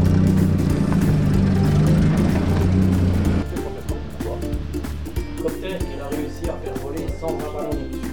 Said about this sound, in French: on se prend à écouter le ronronnement de cette voiture de plus de 70 ans, sans technologie ni capteur, pas de bip-bip pour les parkings non plus, ni de direction assistée, juste la dextérité et les bras du chauffeur.